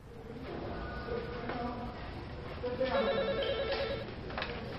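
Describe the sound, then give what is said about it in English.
A telephone rings with warbling electronic tones, loudest near the middle, over a steady murmur of background noise and faint voices. “I received 10 phone calls from this number today, yes?”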